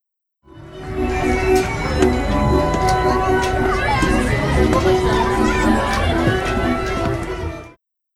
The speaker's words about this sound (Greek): Καρουσέλ.